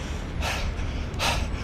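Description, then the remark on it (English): Two heavy, breathy exhalations spaced about a second apart over a low background rumble, from someone catching their breath after walking a mile for a cardiovascular heart-rate test. “I'm breathing a little bit.”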